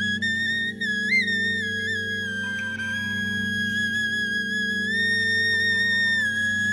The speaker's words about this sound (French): Ça, c'est une flûte d'os de vautour.